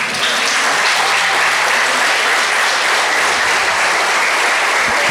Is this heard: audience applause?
yes